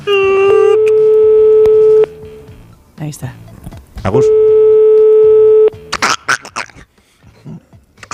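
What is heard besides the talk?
telephone number being dialed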